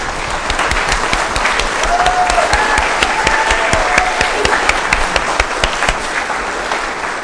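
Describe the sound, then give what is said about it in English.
An audience applauds to give thanks to the people who led worship, many hands clapping in a dense, continuous patter that fills the room at a fairly loud, even level, with a few faint whistles or voices rising above it. “Second, let's continue the applause as we give thanks to all of these people for their leading worship.”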